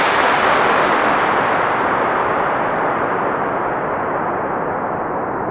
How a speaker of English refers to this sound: tested the echo by firing a starting pistol and recording the reverberation, which lasted for a record-breaking 112 seconds